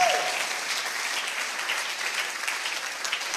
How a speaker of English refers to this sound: I didn't say clap, so please clap well.